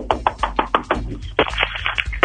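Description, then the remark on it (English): Someone knocks on a door, about six evenly spaced raps, followed by a quicker, louder burst of knocking. The sound is clear, with no one talking. “here, let me give it another knock.”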